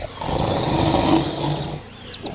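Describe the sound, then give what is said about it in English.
A loud, rough snore from a naked, hairy satyr that is passed out, one long rasping breath that swells and then trails off, heard on its own with no talking. “I'm this one naked hairy creature, and the dude is like passed the hell out. So that's the snoring we heard.”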